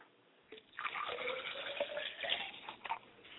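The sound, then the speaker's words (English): After a brief moment of quiet, liquid is poured as a libation for ancestors in a steady, splashing stream for about three seconds, soft, with no voices. “So come over to the Talking Care Room with me as I pour libation for my mother's side of the spirit and my father's side.”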